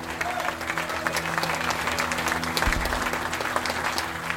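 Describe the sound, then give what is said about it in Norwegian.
Steady audience applause fills the whole stretch, a dense wash of many hands clapping at an even, moderately loud level with no voices standing out. “Applaus!”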